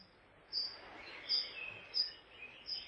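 A short, faint song of a golden oriole: four high, thin chirps at a steady, unhurried pace over a soft background hiss, with no voices.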